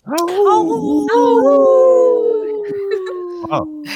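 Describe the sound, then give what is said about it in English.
Several people howl like wolves together, long overlapping wails that rise and then slowly slide downward, loud, with a short yelp near the end. “we should have probably done howling for wolves.”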